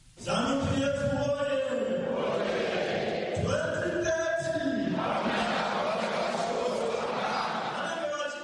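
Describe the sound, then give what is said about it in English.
A large crowd of ruling ZANU-PF party members chants together at party headquarters in Harare, Zimbabwe, awaiting President Emmerson Mnangagwa, in loud, sustained unison, the voices rising and falling in repeated phrases with a dense roar of many people underneath throughout. “Chants by members of the ruling ZANU-PF party echo in the air as those gathered at party headquarters await the arrival of President Emmerson Dambuzo Mnangagwa.”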